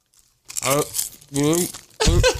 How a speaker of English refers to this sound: He probably can't hear you, but he is crunching on chips now. I'm crunching on a lot of chips.